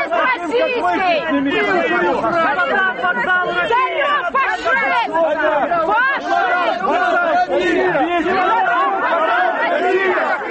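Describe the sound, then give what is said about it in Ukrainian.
A dense, loud crowd of protesters in Mykolaiv, Ukraine, shouting slogans such as "Get out of Mykolaiv" to drive a politician away, many overlapping voices clamoring at once, unbroken for the whole stretch, with no single speaker standing out. “його виганяють вигуками «Геть з Миколаєва» та «Чемодан вокзал Росія».”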